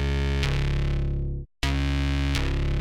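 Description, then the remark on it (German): A loud, buzzy distorted synth tone with reverb and a long release, full of overtones, sustains on its own, re-struck a few times, with one note fading out into a brief silence before the tone returns. “Einen schönen Hall.”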